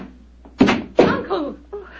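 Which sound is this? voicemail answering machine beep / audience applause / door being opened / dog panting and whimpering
door being opened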